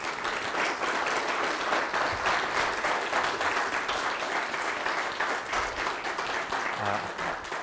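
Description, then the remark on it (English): A church audience gives a sustained round of applause to the girls who led worship, a dense, steady crackle of many hands clapping that holds at an even loudness for the whole stretch without pausing. “I'm kind of slightly biased, so I would like you, without me announcing it, to give those girls a round of applause.”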